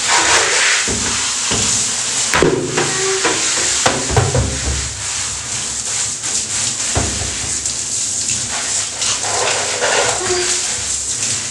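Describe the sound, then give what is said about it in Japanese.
A shower sprays water in a steady, loud hiss, rinsing away urine collected in a bucket for about twelve seconds, with a few faint whimpers and small knocks mixed into the rushing water. “いやー、ちょっとシャワーで簡単に流しちゃいます。”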